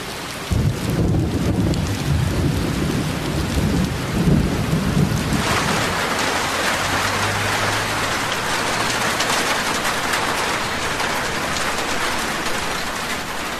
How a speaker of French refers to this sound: Avec le stage de Globule, on ne s'intéresse pas que sur l'ASMR, on s'intéresse aussi aux sons relaxants. Par exemple, le son de la pluie.